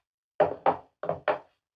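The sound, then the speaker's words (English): A gun is laid down on a wooden table, making four solid thumps in two quick pairs, with no talking. “Then he got up, took out his gun, laid it on the table.”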